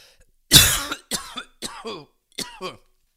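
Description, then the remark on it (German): A loud coughing fit: one harsh, explosive cough followed by four or five shorter, raspy, throaty coughs in quick, uneven succession, with no talking. “Das ist so ein Husten,”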